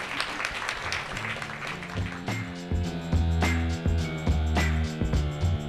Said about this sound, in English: If you please join me for a round of applause for our esteemed guests up here. Thank you so much for coming.